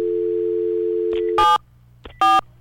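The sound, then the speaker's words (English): A steady telephone dial tone hums for over a second, then cuts off as two loud, brief touch-tone beeps are keyed, separated by a short pause and faint handset clicks, as a host dials out on air to call a contest's first contestant. “Don't you love hearing somebody dial on the air?”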